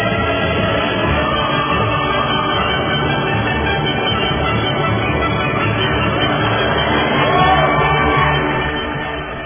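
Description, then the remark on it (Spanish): A dense, steady wash of crowd applause mixed with cheering and scattered shouts, holding loud for about nine seconds before tapering off at the end. “Ahí van los aplausos entonces.”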